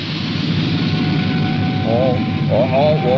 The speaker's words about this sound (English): Ready to take off. Full boost. Wow. That's a musical engine. Here goes.